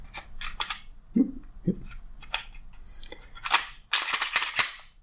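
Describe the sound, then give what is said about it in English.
A series of sharp metallic clicks and scrapes as a Glock pistol is reassembled, the recoil spring under the barrel fitted back into the slide, ending in a louder burst of rattling metal clacks; no talking. “That's the recoil spring under the barrel back into the slide, the...”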